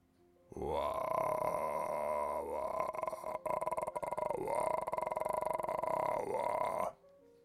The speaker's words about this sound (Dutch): In de verte hoorde Joris de draak brullen en grommen.